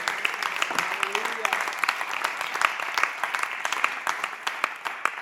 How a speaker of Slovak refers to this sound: Tak dajme ešte jeden potlesk pánovi Ježišovi.